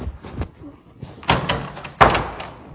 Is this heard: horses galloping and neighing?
no